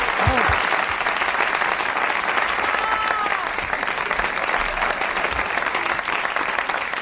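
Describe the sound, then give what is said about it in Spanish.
Sustained applause from an audience at the end of a play fills the scene, a dense, steady patter of clapping hands that stays loud and even for several seconds. “Aplaudís que se fía la obra.”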